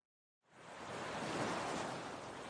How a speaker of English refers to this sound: The water looks magnificent. The murmur of waves is like a comforting balm to my spirit.